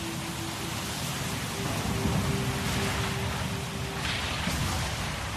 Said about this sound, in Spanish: Y al poco de empezar a navegar, se desencadenó una tormenta de viento.